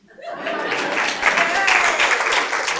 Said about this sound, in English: And, you know, but now, I actually deserve a round of applause for this. I did take my Christmas down.